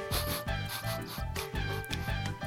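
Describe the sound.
A person beatboxes through the nose, making a steady run of loud, humming nasal pulses with a bouncy rhythm, several beats per second, no words spoken.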